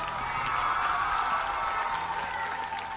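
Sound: children applauding and cheering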